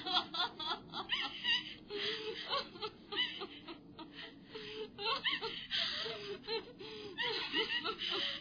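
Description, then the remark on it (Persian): A woman sobs and cries continuously over news that a loved one was killed as a martyr, with ragged, gasping breaths and wavering, broken wails coming in uneven bursts, fairly loud, with no clear words. “تو نباید گریه کنی خواهرم.”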